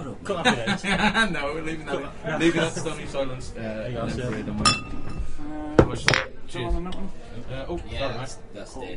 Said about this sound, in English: What, all the bloody clicking of jam?